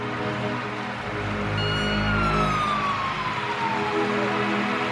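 Fire truck sirens wail loudly as fire trucks come out of a fire station, the pitch sliding downward in a long sweep over a steady low engine and traffic rumble, with no one speaking.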